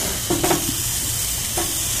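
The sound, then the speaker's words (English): Hamburger patties sizzle steadily on a hot grill, with a couple of brief scraping clicks as a spatula gives them their last flip. Continuous, with no talking. “Alright, burgers are on the last roll here. Or last flip rather. You roll hot dogs, you flip burgers.”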